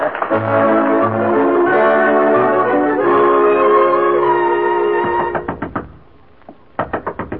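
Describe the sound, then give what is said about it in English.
Sustained music plays for several seconds, then stops. A run of about four sharp knocks on a dressing room door follows, a brief pause, then another quick burst of knocking. “No use knocking.”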